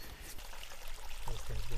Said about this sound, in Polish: Ten dźwięk, który byśmy chcieli przez cały rok słyszeć. Płynąca woda, nie? Której nie brakuje. Taka pianka się tam na dole tworzy.